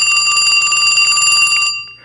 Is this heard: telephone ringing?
yes